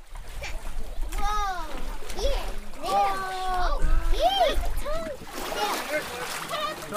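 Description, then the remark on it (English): Water splashes and sloshes at a boat ramp by the Dillingham City Dock in Alaska, mixed with beluga whale blood. A crowd of voices, children among them, chatters and calls out over it while people cut the whale's skin and blubber into plastic totes. The activity is steady throughout. “Beluga blood mixed with water on the boat ramp by the Dillingham City Dock. A crowd hovered around”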